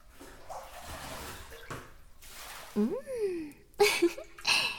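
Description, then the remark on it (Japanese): A steady hiss of shower water sprays continuously throughout as it is run over someone's head, fairly soft, with a voice speaking over the running water in the second half. “じゃあ、頭からシャワーを流していくね。どう？シャワーの温度大丈夫かな？”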